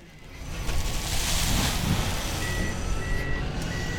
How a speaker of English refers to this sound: Wake Stone already operates a quarry directly next to the Oddfellows site. It's right along I-40 off Harrison Avenue. Dump trucks drive in and out all day, and heavy machinery crushes and hauls stone that's used in all kinds of construction.